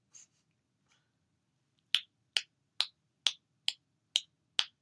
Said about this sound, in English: Can you hear her phone taps?